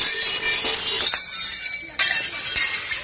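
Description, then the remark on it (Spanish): Plates smash and shatter in a bright, crashing burst, then a brief lull before a second loud wave of breaking crockery with scattered sharp clinks of shards settling. “Miren, la hostelería, seguramente han visto ustedes esta imagen a lo largo del día de ayer y sobre todo han escuchado este sonido, el de los platos rotos.”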